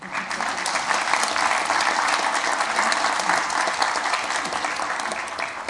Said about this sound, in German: Das ist eine Stelle, wo man gut klatschen kann.